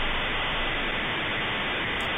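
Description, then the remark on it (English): A steady, loud hiss of 56K dial-up modem noise fills a telephone line, a dense crackling static that holds constant throughout with no voices or breaks. “Ma'am, can you turn off your 56K modem, please? I can barely hear you.”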